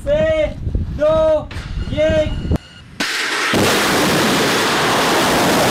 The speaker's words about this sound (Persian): مرحله نهایی رزمایش موشکی سپاه پاسداران روز سه‌شنبه برگزار شد. عملیات شلیک موشک عماد با رمز مقدس یا ابوالفضل العباس.